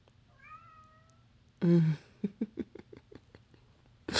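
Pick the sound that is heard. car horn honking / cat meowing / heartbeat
cat meowing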